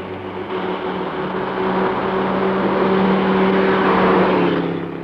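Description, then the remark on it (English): A large German car's engine hum steadily grows louder on a lonely stretch of road, with a low droning tone running through it, peaking as the car passes and then easing off slightly at the end. “This is a lonely stretch of road, and there's a large German car coming up behind us. Ah, she's going to pass.”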